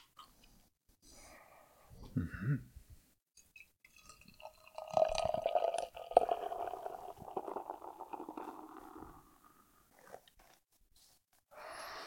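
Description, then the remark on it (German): A bottle of bitter is opened with a brief dull pop, followed by several seconds of steady liquid gurgling as it is poured into a glass, with no one talking. “So, ich mach's einfach mal auf.”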